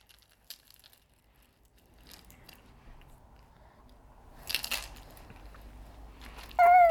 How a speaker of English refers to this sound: Well done for your shaker.